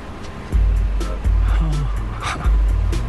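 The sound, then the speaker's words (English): A driverless taxi's low engine rumble swells in bursts over about three seconds, with a brief rising whir and faint electronic tones riding above the steady interior hum, in a scene from the HBO show Silicon Valley. “Here's a show, Silicon Valley from HBO, where one of the show's characters gets into a driverless taxi for the first time.”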